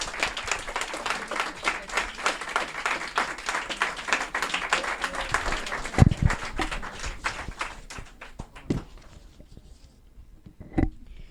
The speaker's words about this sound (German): Steht doch ein bisschen auf und genießt den Applaus, den ihr euch alle verdient habt.